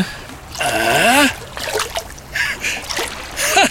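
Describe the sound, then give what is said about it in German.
Irregular water splashing and sloshing in a few bursts as a wallet is fished out of the water, with a brief wordless vocal sound rising and falling near the start. “Ich bin mir sicher, dass wir mit ein bisschen Geduld und einem glücklichen Händchen deinen Geldbeutel aus dem Wasser cachen werden.”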